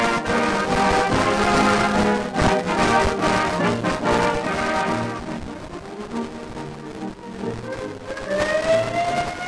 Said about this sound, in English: I hear that shrill siren of a police car, ambulance, or fire engine, I am reminded of Rio Grande cracked gasoline.